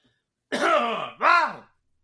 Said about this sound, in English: So here we go. Got to clear my throat.